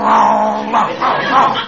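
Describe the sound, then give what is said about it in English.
A man down on all fours growls like a dog, a loud, rough, sustained snarl from his throat that rises and swells in a few pulses, with no other sounds. “He growls, so I'll growl.”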